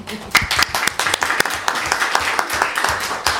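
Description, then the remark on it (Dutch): A short burst of applause from a small group at a committee meeting, given as thanks for a cake, with dense, irregular sharp claps running steadily for a few seconds at moderate loudness, and a faint murmur of voices underneath. “Ja, applaus.”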